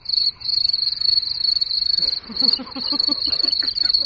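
Crickets chirp steadily in a continuous high trilling drone, fairly loud, with a few faint lower chirping sounds joining in partway through. No one speaks.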